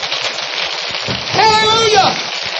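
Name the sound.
audience clapping hands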